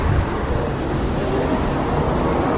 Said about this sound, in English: It's getting windy out here. The storm is coming.